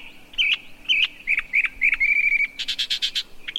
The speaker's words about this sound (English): With such extensive knowledge of the great American songbird book, mockingbirds really are the crooners, or croakers, of the bird world.